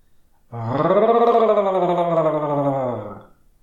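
A single drawn-out, low growl lasts nearly three seconds, loud and steady, its rumbling pitch sagging slightly before it cuts off. No one speaks.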